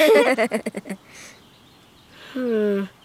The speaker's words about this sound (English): Those are wild geese. They're not super squawky, though. They sound more like a dog's chew toy. Or a rubber duck for the bath.